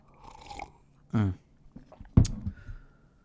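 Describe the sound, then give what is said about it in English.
Someone takes a quiet sip of tea from a cup, a brief slurp followed by a swallow and a soft clink, with faint mouth sounds around it and no talking. “Let me just take a sip of my tea.”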